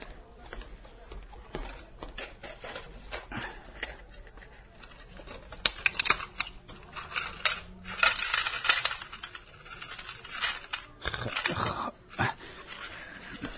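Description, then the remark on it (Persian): Small metal nails clink and rattle as a shopkeeper scoops and handles ten cents' worth of medium-sized nails for a customer in a shop, a dense run of bright jingling clicks, moderately loud, with no voices. “اینم 10 سنت میخ. ممکنه بپچینش توی کاغذ؟”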